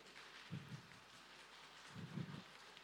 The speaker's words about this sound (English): Okay, I shall conduct the storm. Are we ready, balcony people and soundbox people? Are we ready? And the rain.